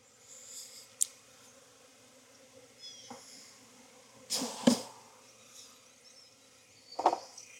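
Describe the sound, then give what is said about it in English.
A steady hum of many honeybees droning together around an opened hive on a cloudy day, broken by a few sharp clunks and scrapes of equipment being handled near the start, middle and end as the hive is put back together. “I know, ladies, I have disrupted your day, and it's cloudy, it's not a great bee day.”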